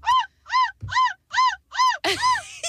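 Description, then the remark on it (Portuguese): A radio listener taking part in a contest imitates a seagull with six high, arching squawks in an even rhythm, each rising then falling in pitch, the last one rougher and louder than the rest. “É uma gaivota.”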